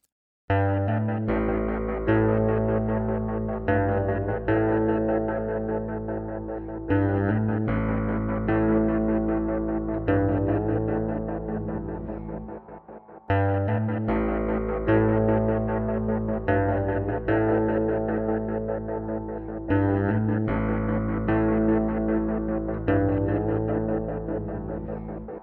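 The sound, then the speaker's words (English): A heavy, sustained bass tone washed in long reverb, rhythmically chopped into steady pulses by a square-wave tremolo synced to the track tempo, looping loud with no voices. “but one interesting trick is to add a long reverb to a bass and then feed it through a square wave tremolo or chopper synced to the track tempo.”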